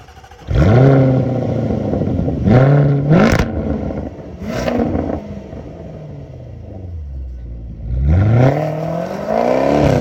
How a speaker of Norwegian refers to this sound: Og jeg husker de cold startene. Å, fy flate. La oss bare høre på det.